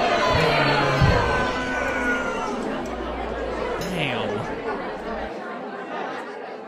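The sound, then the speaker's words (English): A steady murmur of crowd chatter at a comedy show, many overlapping voices talking at once with no laughter or applause, holding a fairly even loudness throughout before a low hum cuts out near the end. “I was hoping that one went better for him, but it doesn't sound like the crowd was into his stuff.”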